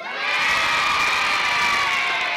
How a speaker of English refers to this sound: Well, thank you on behalf of the parents and children here at Doncaster. If we can have a big cheer from everybody, please. Big cheer.